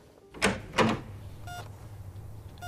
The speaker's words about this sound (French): La porte de la chambre s'ouvre et laisse la place à un homme au regard bleu compatissant, bras musclés, physique athlétique, qui porte blouse blanche et stéthoscope.